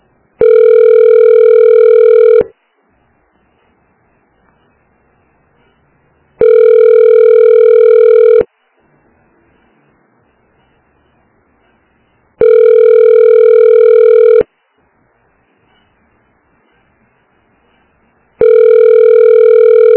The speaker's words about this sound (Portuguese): Atendendo o telefone.